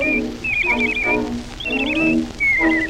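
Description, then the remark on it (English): A girl whistles bird-like warbling trills in three or four short phrases, fairly loud, with a lower humming tone running underneath, imitating a songbird. “But I told him I could claim attention whistling like a bird.”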